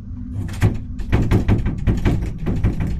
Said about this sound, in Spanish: De camino preguntó dos veces y dos veces la señora le dijo que estaban azotando la puerta, como que querían entrar.